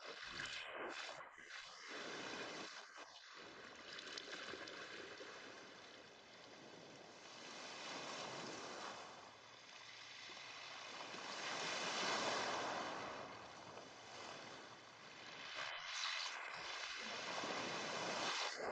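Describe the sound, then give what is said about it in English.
Gentle ocean waves wash steadily against the shore, a continuous soft hiss that slowly swells louder and recedes, with no voices present. “You are still floating, and gently the slight movement of the swell brings you back and places you on the sand at the water's edge.”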